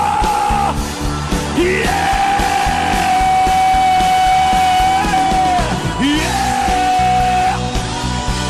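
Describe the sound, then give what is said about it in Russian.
A church audience shouts loudly and continuously in worship, a dense roar of many voices with one long sustained yell rising above it, filling the whole stretch without a break. “Кричат те, кто доминирует в духовном мире!”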